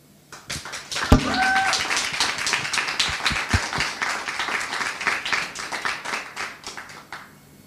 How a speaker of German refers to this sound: Und für den möchte ich gerne nochmal klatschen.